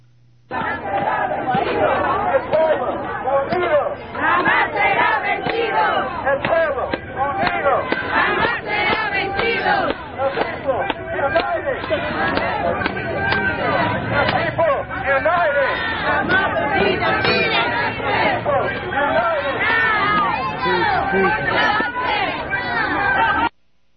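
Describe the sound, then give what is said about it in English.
A protest march of 500 to 1,000 people moving down Grand Street from Fairhaven to City Hall on the green downtown fills the air with loud, continuous shouting and chanting, many voices overlapping in a dense, steady roar that barely lets up for the whole stretch. “500 to 1,000 people marched down Grand Street, again, from Fairhaven in the river, in the bridge there in Fairhaven, all the way to City Hall, right on the green in downtown.”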